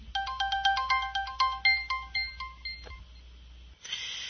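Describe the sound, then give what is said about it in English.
A mobile phone ringtone preview, announced by name by the phone's talking menu before it plays, sounds a quick, bright electronic melody of short repeated beeping notes for about three seconds, then cuts off into a brief burst of hiss. “Now you'll notice that the talks tells you what the ringtone is before it plays it.”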